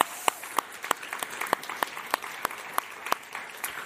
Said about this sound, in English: Let's give her a little clap and show our appreciation for her.